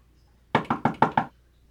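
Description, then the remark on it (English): Five loud, rapid knocks pound on a door in quick succession, forceful, with quiet before and after. “I've been pounding on your door for like, I don't know how many minutes, a long time now.”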